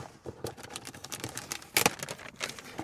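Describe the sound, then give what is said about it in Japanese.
Paper crinkles and rustles as a letter is opened, a steady run of dry crackling with one sharper, louder crunch partway through. No voices. “はい、 じゃあ早速ガサガサ。”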